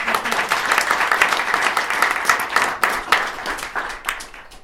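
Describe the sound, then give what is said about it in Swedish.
An audience at a book talk applauds the three participants steadily, a dense patter of many hands clapping at once, holding strong for a few seconds before thinning out toward the end. “En till applåd till alla tre.”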